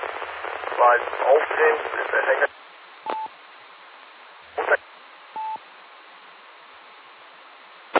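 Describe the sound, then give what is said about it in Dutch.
A burst of weak, garbled amateur radio transmission from an unidentified station whose call sign could not be made out, a muffled voice smeared in hiss for a couple of seconds, followed by low static, short noise bursts and two brief steady beeps. “Ja, ik hoorde mijn naam in elk geval. Ik kon alleen niet ontcijferen wat de call was.”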